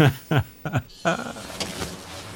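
Sounds from inside a moving 1990s Ford SUV: a few short, rising motorized whirs in quick succession, then a longer stretch of softer mechanical rumbling and rattling, moderately loud.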